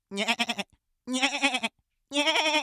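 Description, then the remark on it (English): A goat bleats three times in close succession, each call loud, nasal and wavering, with brief silent gaps between them and no talking. “You've manifested your soul into a goat!”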